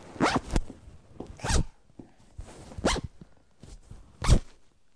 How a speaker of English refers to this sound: That's your... zip. Zip goes down or up. Down. And zip, zip. Down or up.